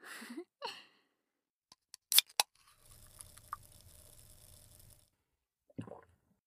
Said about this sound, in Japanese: これ新作の炭酸、いい音するでしょ。なんか炭酸が強いやつらしいよ。